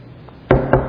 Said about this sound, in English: The knock comes.